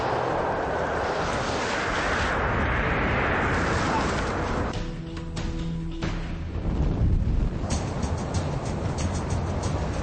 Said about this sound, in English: And another storm with 50-mile-an-hour Arctic winds has whipped up, and the temperature has plummeted to minus 15 degrees. It's really blowing a hoolie here